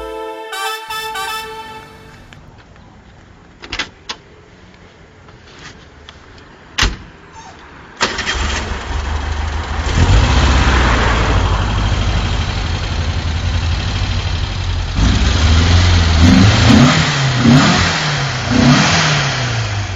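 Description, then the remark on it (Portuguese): A few clicks and a thump, then a car engine catches and settles into a loud, steady rumble before revving repeatedly, the pitch rising and falling with each press of the throttle. No one speaks. “Carro diferente, valente, que chamava a atenção.”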